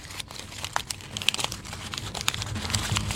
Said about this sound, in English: You're crumpling the paper.